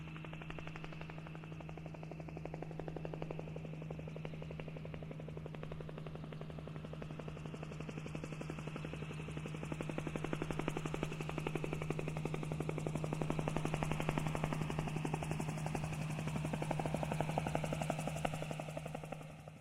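Helicopter rotor chatter, a rapid, steady thudding with a low engine drone, growing louder over about twenty seconds as the aircraft approaches to pass overhead above an open stretch of road, with no voices.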